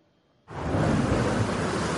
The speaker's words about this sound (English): This is what happens when so much rain falls so fast. Cars, one after another, hydroplaning, out of control on a major LA freeway.